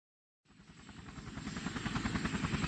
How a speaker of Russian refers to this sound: Вертолет медленно набирал высоту, приводя в завихрение бесчисленное количество снежинок.